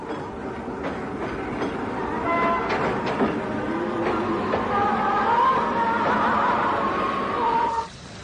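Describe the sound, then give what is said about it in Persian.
A passenger train on the 2,000-kilometre route from Xi'an to Hami rolls steadily along the rails with a loud, continuous rumble, irregular clacks of the wheels and a faint high whine, then the noise drops off abruptly at the end. “امروزه پیمودن مسافت 2000 کیلومتری زیان به هامی با قطار فقط دو روز طول می کشد.”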